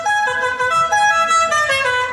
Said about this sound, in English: It was about the guy, the neighbor that was kind of loud, and he had the horn on his lawnmower. They go, oh, yeah. La Cucaracha. And he would crank it, and then.